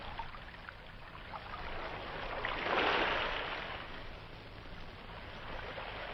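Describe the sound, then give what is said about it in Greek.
A rowboat moving through water, steady sloshing and lapping with a louder rush midway as the hull pushes in to land at the shore, then settling back. No voices. “Η ακτή είναι μπροστά σου. Βοηθήστε με να βγω από τη βάρκα.”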